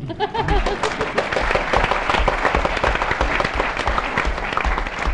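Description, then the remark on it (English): An audience at a London School of Economics event applauds steadily, a dense wash of many hands clapping at a fairly loud, even level throughout, with no talking over it. “Thank you, sir, for beginning a round of applause.”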